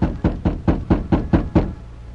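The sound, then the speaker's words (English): A quick, steady series of about seven firm knocks on the wooden door of a house, made by the Lone Ranger knocking with his left hand while holding a gun in his right, distinct, then stopping abruptly with no voices. “Outside the house, the Lone Ranger, prepared for trouble, held a gun in his right hand as he knocked on the door with his left.”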